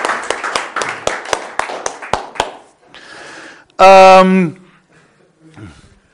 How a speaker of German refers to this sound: Gib mal allen beiden einen tollen Applaus. Das haben die großartig gemacht.